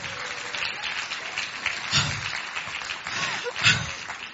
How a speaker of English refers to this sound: A round of applause for...